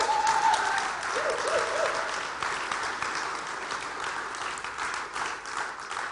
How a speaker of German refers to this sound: Bist du froh, bei der Gemeinde zu sein? Dann gib dem Herrn einmal einen kräftigen Applaus.